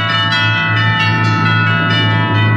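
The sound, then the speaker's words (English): Bells ring loudly and steadily, their sustained, overlapping tones forming a bright, shimmering wash with a few fresh strikes. No one speaks. “Bells are ringing, everyone is singing.”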